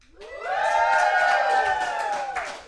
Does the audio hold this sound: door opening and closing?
no